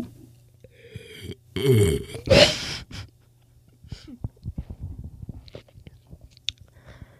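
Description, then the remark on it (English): ASMR mouth sounds: a few loud, wet, crunchy bursts of chewing and crunching followed by softer clicking and chewing noises, with faint breathy whisper-like texture and no clear speech. “You know, like, those sounds of people, like, chewing or crunching on, like, something. And they whisper into it. That's kind of what I'm doing.”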